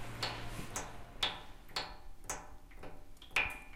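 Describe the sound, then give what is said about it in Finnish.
Juice drips in a steady rhythm, about two drops per second, each a soft sharp tick, some ringing with a bright, high plink. Quiet throughout, with no voices. “Mäpä äänitän vähän aikaa kuin tippumisen ääntä.”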